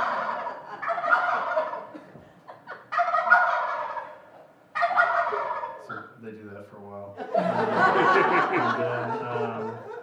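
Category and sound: bird, wild turkeys gobbling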